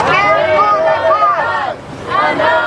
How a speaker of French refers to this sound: Vous n'êtes pas seul, nous sommes avec vous, scandent des manifestants venus soutenir les familles des otages.